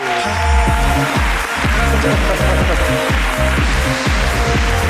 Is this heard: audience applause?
yes